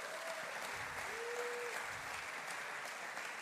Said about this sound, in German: Hammer. Mein Applaus für ihn.